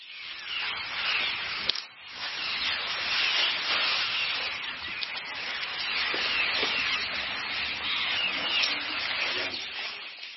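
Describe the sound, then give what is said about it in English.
A herd of elephants grazing in the Sabi River Valley, heard as steady, dense rustling and scraping of brush that continues for the whole stretch, with one brief lull early on and no voices. “The closest we can get to that is listening to a herd of elephants grazing in the Sabi River Valley.”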